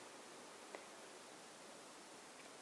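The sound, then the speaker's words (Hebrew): A soft, steady wash of white-noise hiss fills the whole moment, like a signal dissolving into static, with one faint tick partway through and no voices. “גם את זה אנחנו קוטעים, זה נחלש, זה מתפרק לסטטי, כאילו, לא סטטי, לרעש לבן כזה.”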